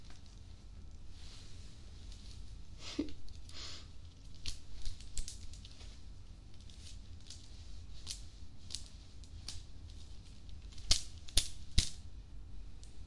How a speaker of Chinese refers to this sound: 鞭子。